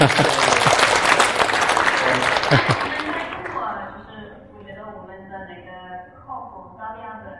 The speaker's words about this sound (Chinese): 掌声感谢。